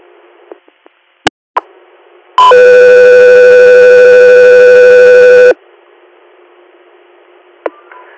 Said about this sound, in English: Got your ear, stand by for tones.